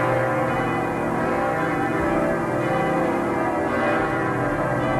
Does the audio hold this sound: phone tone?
no